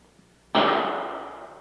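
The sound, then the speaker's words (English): A single sharp pistol shot cracks out of near silence, followed by a long, broad, hissing tail that slowly fades over about a second. No voices. “That sounded like a pistol.”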